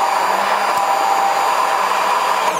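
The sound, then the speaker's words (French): A blender runs at full speed, a loud, steady high-pitched whir that holds constant throughout as it purées tomato, pineapple, apricots and basil and mint leaves, with no voices. “mixeur pour mixer la tomate ananas, les abricots et les feuilles de basilic et de menthe.”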